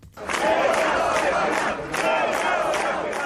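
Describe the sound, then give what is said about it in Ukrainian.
A large crowd gathered outside a courthouse in central Chișinău, where the court was ruling on extending the arrest of former prime minister Vlad Filat, roars and shouts. Many voices overlap in a loud, continuous din with brief surges of louder yelling and chanting. “Натовп людей зібрався біля приміщення суду в центрі Кишинєва, який ухвалював рішення щодо продовження на місяць арешту екс-прем'єра Влада Філата.”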